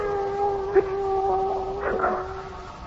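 A cat yowls in a long, drawn-out, wavering wail that holds for several seconds, steady, with a couple of brief knocks breaking through.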